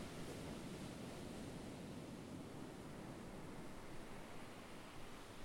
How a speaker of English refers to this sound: I'm sat on the pier at Imperial Beach, sandwiched by the Pacific Ocean on one side and the South San Diego Bay on the other.